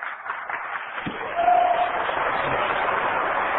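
An audience breaks into applause for God and Jesus Christ, a dense wash of clapping that swells about a third of the way in and holds steady and loud until the end, with no clear voices.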